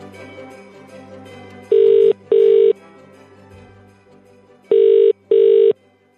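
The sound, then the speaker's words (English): A telephone rings for a call to the British Turkey hotline, in the classic double-pulse pattern: two short bursts, a pause, then two more, loud and buzzy over a low, steady background hum. “So when she answers or he answers, just open up the paper, say what you see, and then you've got to blag it from there, okay?”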